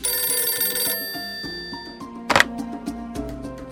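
Near midday, a telephone bell rings loudly with an incoming call in one bright, metallic burst, its tone lingering and fading afterward, followed by a brief clatter like the handset being lifted. No one speaks.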